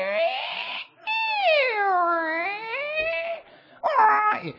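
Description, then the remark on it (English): A human voice imitates whale calls: a short wail, then a long, eerie moan that dips low and rises again, followed by a brief, higher cry. No other talking. “And I can hear God communicating somehow with the whales.”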